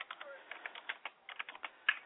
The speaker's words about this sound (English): Hello. I hear somebody typing, but yes. That's me.